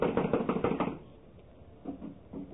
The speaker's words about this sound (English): Well, someone is definitely in there. I'm going to knock. Now listen closely.